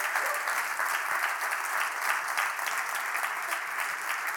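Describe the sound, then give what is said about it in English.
A church audience applauds its leaders, including the morning's sound and worship team, steadily: a dense wash of many hands clapping at an even, fairly loud level for several seconds without any talking over it. “Would you give these leaders a round of applause?”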